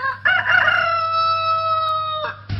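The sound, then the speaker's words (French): A rooster crows once, loud, with a long sustained cock-a-doodle-doo that holds steady for about two seconds before breaking off. A low hum runs underneath. Filmed in the Cantal, France, home region of President Georges Pompidou. “Alors le chef de l'État convie les caméras dans son Cantal natal, coq, chien, chevaux et pull-over pour effacer les dégâts.”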